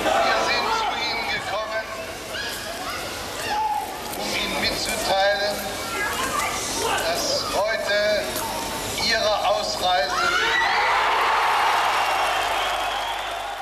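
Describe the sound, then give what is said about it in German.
A large crowd roars and cheers loudly, its jubilant noise swamping the final words of Hans-Dietrich Genscher speaking from a balcony over a loudspeaker, with the cheering swelling into a dense wash toward the end. “Das geht ja, oder die letzten Worte von Hans-Dietrich Genscher, die gehen ja im Jubel unter.”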